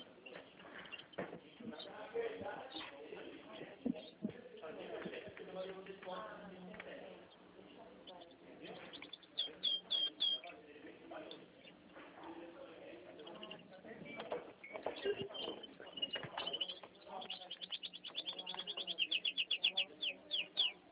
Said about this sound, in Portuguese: É, nos canários belgas.